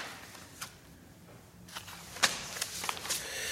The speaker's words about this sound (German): Ich muss gerade mal hier schon ein bisschen blättern, weil ich einiges überspringe.